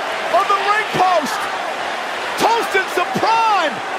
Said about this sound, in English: So Logan ended up slamming Jelly through an announcer table, and this is what it sounds like.